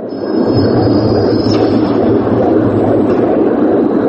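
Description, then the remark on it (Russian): Dozens of recorded human heartbeats blend into a dense, loud, rhythmic rumbling hum, steady throughout like machinery running, with a faint high whine above and no voices; part of a Christian Boltanski installation at the Monumenta exhibition in the Grand Palais, Paris. “Этот ритмичный гул похож на шум заводских цехов, но на самом деле это запись биения нескольких десятков человеческих сердец.”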